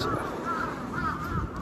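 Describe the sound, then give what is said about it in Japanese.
Several harsh crow caws ring out in quick succession over a steady outdoor background hiss with no one talking; crows in Sapporo, heard while walking home. “札幌のカラスはうるさいんだよね。たくましいというか、ずぶといというか、ね、カラスくんが騒いでます。”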